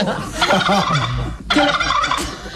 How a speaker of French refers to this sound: Quel animal glougloute ? Le dindon. Oui.